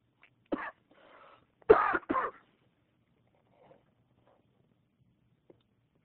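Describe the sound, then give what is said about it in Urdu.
A short burst of harsh coughing: one cough, then a brief rasping breath, then two louder coughs in quick succession, followed by near silence with faint background sounds. “اصل میں پان وہ جو ہے پان مانگ رہا ہے، اس کی کھانسی ہے.”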